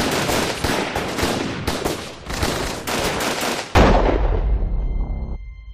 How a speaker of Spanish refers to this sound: de forma imprevista, con frialdad y serenidad, conscientes de lo que hacían, José Fernández Cerrá y Carlos García Juliá comenzaron repentinamente a disparar en trayectoria cruzada, de forma indiscriminada, a una distancia de unos 60 centímetros.